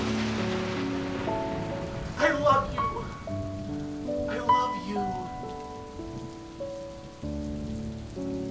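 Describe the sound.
Steady rain patters on a hard surface, a constant hiss under gentle sustained music, while a voice speaks briefly in the foreground.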